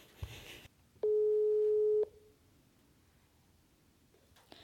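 A loud, steady telephone line tone sounds once for about a second, followed by a quiet pause, as someone phones the police station and waits for the call to connect. Faint handling noises appear at the start and end.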